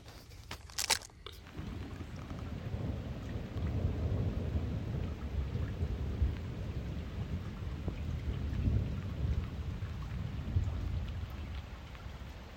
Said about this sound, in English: As you can hear, just as a quick postscript, you know that thunderstorm we were meant to get earlier? It's just arrived.